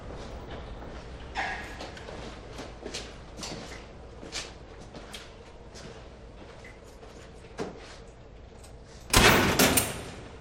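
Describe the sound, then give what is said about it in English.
A guard opens a heavy prison door, which clanks and rattles open amid busy background noise and scattered knocks, then shuts with a loud metallic slam near the end. “The guard opens it for him, and Victor walks through. It closes behind him.”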